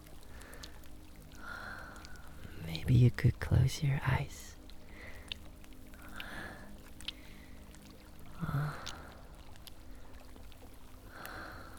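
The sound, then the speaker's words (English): Gentle, intermittent sloshing and swishing of hands moving through warm water, a few soft strokes spaced several seconds apart, with a quiet whispering voice over them. “Just enjoy the soft touches and strokes of my hands underwater. Under the warm water.”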